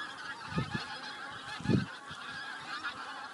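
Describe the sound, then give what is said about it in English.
A large flock of geese honks in the neighbouring fields just before flying north for the summer: a few harsh calls rise above a steady backdrop of many quieter honks and chatter. “There's loads of them in next door's fields and they only go there just before they fly north.”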